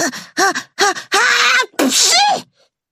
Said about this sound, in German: setzte Paddy an, musste niesen und wischte mit dem Ärmel über seine Nase.